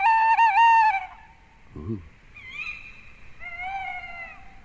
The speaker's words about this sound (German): Eine Eule? Ja, du bist ganz nah dran. Es ist auf jeden Fall ein Eulenvogel.